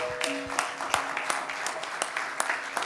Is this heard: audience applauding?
yes